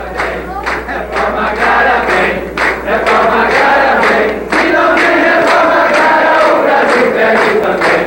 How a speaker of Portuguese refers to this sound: No começo da tarde, trabalhadores rurais ocuparam o corredor que dá acesso ao plenário e saudaram cada constituinte que passava com músicas e palmas pedindo a reforma agrária.